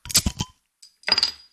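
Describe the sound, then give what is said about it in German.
Glasses clink together in a toast: a quick cluster of bright taps, then after a short pause another ringing clink with a lingering glassy tone, with no talking. “Prost.”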